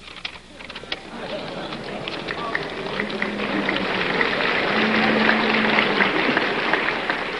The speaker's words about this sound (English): That was the statement sent to the teach-in by McGeorge Bundy, who didn't show up himself. There were a few boos and hisses mixed with the applause as the moderator finished reading the Bundy statement.